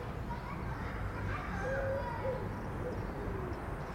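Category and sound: crowd, children playing football outdoors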